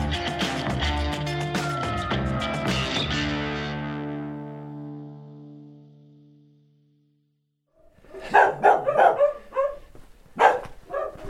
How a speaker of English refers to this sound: There goes the silence, hey? I think I've triggered every dog in the village that's left. I'm here in Jardo, a little Portuguese village next to the Coa River, 5 miles from the border of Spain.